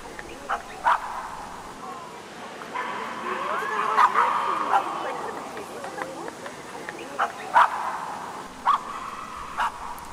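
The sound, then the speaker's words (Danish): Several dogs bark and yip in short bursts, with some whimpering between, against a busy outdoor crowd murmur where people chatter, in a long queue of children with pets outside a cathedral waiting for a bishop's blessing of the animals. “På den dag danner der sig en lang kø uden for katedralen af børn, der kommer slæbende med kæledyr, der skal modtage biskoppens velsignelse. Katte, hunde, hamstre, guldfisk, papegøjer, slanger.”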